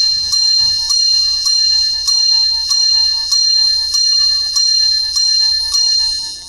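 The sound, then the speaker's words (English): The Bad Boy Mowers Divorce Bells, a bright metallic bell, strike repeatedly at a steady quick pace, about one stroke every three quarters of a second, each ring decaying before the next; loud, with no voices. “Give me a second through these bells to think of it.”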